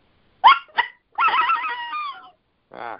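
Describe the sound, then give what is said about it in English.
An old predator call is blown to imitate a coyote: two quick yips, then a wavering, slightly honking howl lasting about a second, and one short closing note. No one talks. “It's not giving me good sound, but you could do a sounds little better than sound. Coyote howls with it.”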